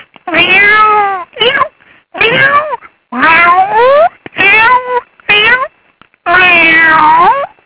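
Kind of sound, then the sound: vocal imitation, person imitating cat meowing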